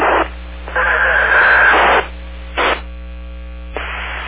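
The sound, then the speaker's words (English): Radio scanner static in several hissing bursts that cut in and out, the longest about a second and a half, over a steady low electrical hum, with no clear voices. “it's always in the scanner, but I don't always monitor it.”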